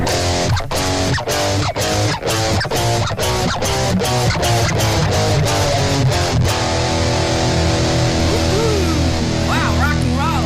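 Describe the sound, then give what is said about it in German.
Heavily distorted electric guitar playing basic power chords, with the bass set high, chugging in a steady rhythm, about a dozen loud, crunchy hits, then a final chord left ringing and sustaining on its own. “Also das hier sind die Basic Power Chords.”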